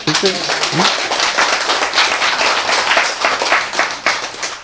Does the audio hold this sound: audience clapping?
yes